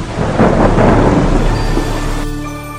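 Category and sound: nature, thunderstorm with heavy rain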